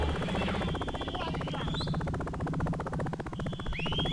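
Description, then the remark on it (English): Helicopter rotors beat in a fast, steady chop that fills the whole stretch, loud, with a few thin high chirps sliding over the top. “Choppers, now listen up.”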